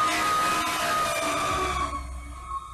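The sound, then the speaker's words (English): A fire truck siren at a fire scene blares with a loud, steady, high-pitched wail, its tone sliding slightly downward, while a low engine rumble joins in over the last second. “I'm going live right here on the fire scene right here, the fire truck right behind me.”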